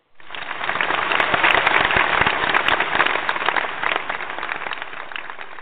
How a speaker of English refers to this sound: You might ask, why are we clapping?